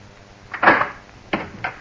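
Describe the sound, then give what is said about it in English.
A door opens with a short creaking scrape, followed by a couple of softer knocks and clicks as it swings and settles. No one speaks. “Please open the door.”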